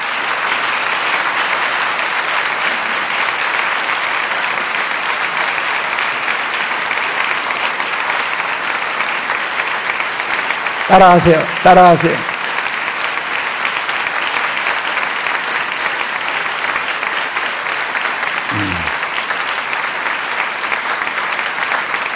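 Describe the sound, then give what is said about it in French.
Sustained crowd applause fills the whole stretch, a dense, steady clatter of many hands clapping at an even loudness, with a couple of brief voice-like sounds rising over it midway, applauding people who are to be baptized today. “Applaudissons ceux qui vont se faire baptiser aujourd'hui.”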